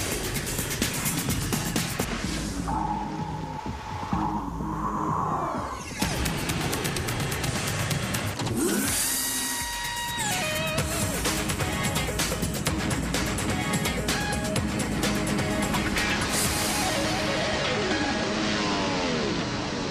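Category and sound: vehicle, airplane engines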